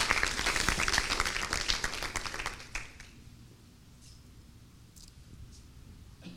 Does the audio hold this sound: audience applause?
yes